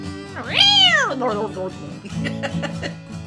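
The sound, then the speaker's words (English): A single loud, drawn-out meow from a Persian cat rises and falls in pitch near the start, then gives way to softer overlapping voices and murmur. “I know you hate cats. She had a Persian.”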